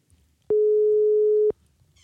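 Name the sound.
phone ringing tone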